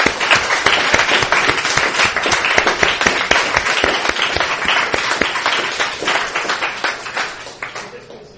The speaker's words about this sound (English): So just a round of applause for him.